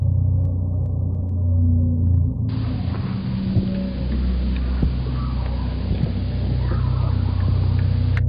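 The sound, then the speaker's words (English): A heavy, persistent low drone made of war sounds slowed down to as little as 2% of their original speed, created by Dennis to underscore a film scene of Marines clearing a village, rumbling and throbbing steadily with a dense, murky texture and occasional faint crackles, with no voices. “To underscore this scene, Dennis adds a persistent drone made up of the sounds of war, slowed down to as little as 2% of their original speed.”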